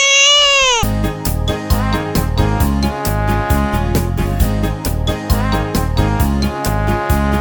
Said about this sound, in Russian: не плачь, родной.